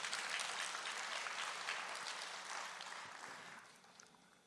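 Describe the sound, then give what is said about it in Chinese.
An audience applauds together for God after a story of family baptisms, a dense, steady wash of many hands clapping that holds strong for several seconds and then gradually thins and fades toward the end. No voices are heard. “那我说姨丈那阿姨要不要受洗，阿姨说他受洗我也受洗啊，两个给神一个掌声。”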